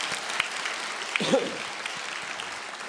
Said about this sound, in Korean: 우리 박수로 한번 하나님께 영광을 받드립니다.